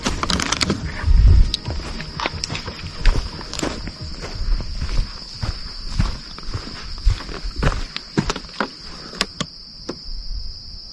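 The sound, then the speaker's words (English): Footsteps crunch steadily through the woods, close and fairly loud, over a constant high insect or cricket drone with no voices. “After hearing strange sounds and footsteps nearby, they begin to freak out,”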